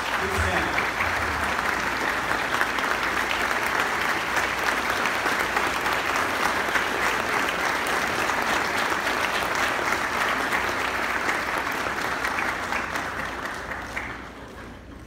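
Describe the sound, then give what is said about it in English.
A church audience breaks into sustained, loud applause for the mothers present, who stand up on Mother's Day. The dense, steady wash of many hands clapping holds for about fourteen seconds before beginning to fade at the end. “But with her, and in appreciation to all the mothers in here, I want all the mothers to stand up today and let us all clap back for all the mothers here, for all the hard work that they put, for all the work that they put.”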